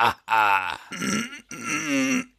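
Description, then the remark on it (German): A voice imitates a long, drawn-out fart from a character in bear form who ate too much honey, with three strained, buzzing bursts that groan and wobble in pitch, fairly loud and with no other talk. “Ich hab zu viel Honig gefressen und musste gerade so richtig einen fahren”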